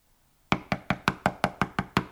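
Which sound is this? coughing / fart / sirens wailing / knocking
knocking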